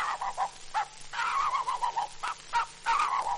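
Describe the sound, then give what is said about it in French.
A man's voice imitates a dog barking, giving a quick series of harsh, raspy yaps and a few drawn-out growling barks, fairly loud, with no other talking; part of an animal-imitation performance on an Edison record depicting a visit to the Jardin des Plantes. “Mesdames et messieurs, voici les quelques cris d'animaux que j'ai pu retenir en faisant une visite au jardin des plantes. Voici d'abord le chien.”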